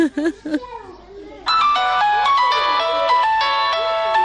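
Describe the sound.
A mobile phone rings with a steady, bright electronic melody of repeating tones, loud, starting after a brief moment of a child's voice talking; the incoming call is from an unknown number.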